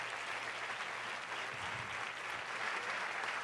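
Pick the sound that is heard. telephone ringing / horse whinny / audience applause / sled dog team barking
audience applause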